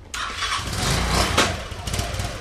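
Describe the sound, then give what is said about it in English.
A motorcycle engine sputters to life abruptly and settles into a steady roar with a brief rev partway through, no voices over it; a motorcycle in Brazil setting off on an hour-long commute to a job at a mall. “climbed on her motorcycle for the hour-long commute to her job at the mall, she told us every day was a combination of prayer, thanks, and fight.”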